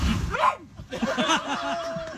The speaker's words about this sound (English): Oh, that dog, cold-blooded. Okay, I think that was set up somehow.